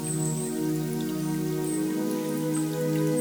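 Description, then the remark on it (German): Steady flowing water from a forest brook, a continuous trickle with light patter and drips, accompanied throughout by a sustained droning tone and no voices. “Die Musik des Waldbachs.”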